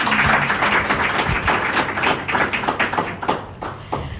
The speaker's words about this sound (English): Yeah. Yeah, we can clap to that.